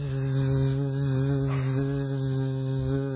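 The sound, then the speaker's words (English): A steady, low buzzing drone of a colony of over 50,000 bees living inside the wall of a house, heard muffled with an ear pressed against the wall, holding constant without pause for the full few seconds. “Bzzz, constant. I thought, we got bees in a wall.”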